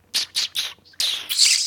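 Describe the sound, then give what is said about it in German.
Three quick squeaky kissing smacks made with the lips, close to the mic, followed by longer, breathier smooching squeaks that sound almost like bird chirps. No one speaks. “Wer kann die besten Kussgeräusche von uns?”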